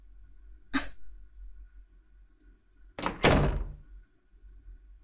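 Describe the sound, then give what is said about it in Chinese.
A door opens: a sharp click first, then about two seconds later a louder rattling clunk lasting under a second, against a quiet low hum with no voices. “妈，开门。我不去了，你去开吧。”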